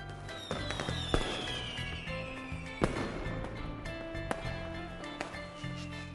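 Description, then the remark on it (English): Fireworks burst and crackle, several sharp bangs spaced a second or two apart over a continuous fizzing, whistling background, with a rising whine trailing off early on. “Look, the fireworks are so bright!”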